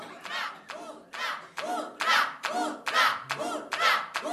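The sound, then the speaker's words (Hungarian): Rhythmic applause in steady, even bursts, loud, as a group claps together in unison for several seconds. “Jóval álljon, se elég a tapsból, és tálalj!”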